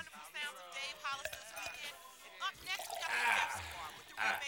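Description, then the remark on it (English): Voices talk for the first couple of seconds, then a drink is poured into a glass with a splashy pour, a bright, hissing gurgle and a faint clink. “Pour me a drink. Please.”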